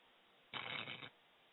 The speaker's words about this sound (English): So I'm going to put okay. the phone up to it. Everybody, this is the moth speaking, and it only plays for like 2 seconds, so hold on.